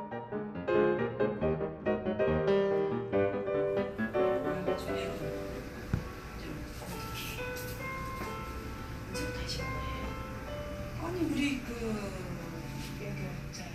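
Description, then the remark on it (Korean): Gentle, calm music plays clearly for a few seconds in a skin care salon with small treatment rooms in Buford, near Atlanta, then sinks beneath a steady indoor hum with faint, indistinct women's voices murmuring in the background. “나란히 붙어있는 관리실로 잔잔한 음악 소리가 새어 들어가고 관리실 문 틈으로 여성들의 말소리가 새어나옵니다.”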